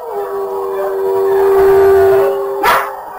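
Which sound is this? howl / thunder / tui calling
howl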